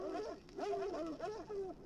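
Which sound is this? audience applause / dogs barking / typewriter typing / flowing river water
dogs barking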